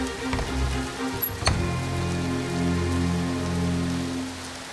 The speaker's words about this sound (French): La pluie tombe longtemps, très longtemps. Il y a de l'eau partout sur la terre, jusqu'en haut des montagnes, et le bateau flotte. Après 40 jours, la pluie s'arrête.